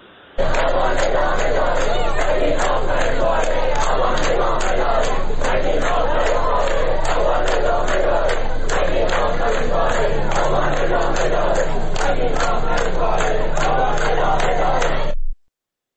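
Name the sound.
protest crowd chanting slogans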